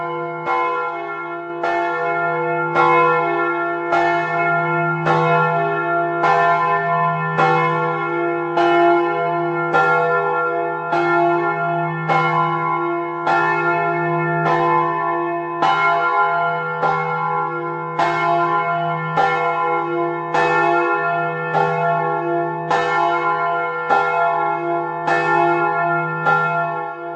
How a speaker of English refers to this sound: If you look at the rim where the clapper hits, you'll see it's very smooth and clean. This bell is also great to ring. Just one person can do it.